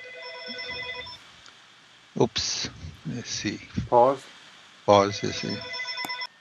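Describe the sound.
A telephone rings with a steady electronic trill, first alone, then again near the end, while a man's voice talks in between and over the second ring; the call is from his daughter.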